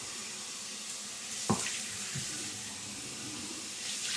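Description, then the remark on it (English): Shower water runs steadily with a continuous hiss, broken once by a brief knock or thump partway through. No one speaks. “Now, out of the shower, I'm gonna put a little.”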